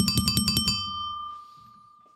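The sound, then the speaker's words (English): A bicycle bell trills with about six quick, bright strikes in rapid succession, then leaves a high metallic ring that slowly fades away. No one speaks over it. “I also have a bicycle bell.”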